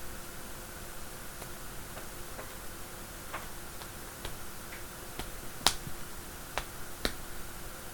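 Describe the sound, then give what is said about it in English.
Thighs slapping against each other during sex in a loose, irregular series of sharp, crisp smacks, about a dozen over several seconds, some louder than others, over a faint steady hiss with no talking. “Hear the sound of those thighs slapping on my thighs.”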